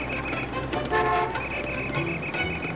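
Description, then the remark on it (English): Busy street traffic at a city intersection, with car horns tooting repeatedly over a steady rumble of engines, loud throughout, no one speaking. “In the center of a busy intersection, a traffic cop blows his whistle and holds up his gloved hands.”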